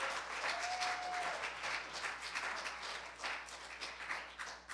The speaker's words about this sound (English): Give Jesus a hand clap of praise in the house of God.